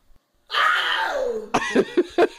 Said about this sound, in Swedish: Det låter som ett stort kattdjur, gör inte det? Ja, det gör det faktiskt. Ja, det gör det, exakt. Det låter som ett stort kattdjur.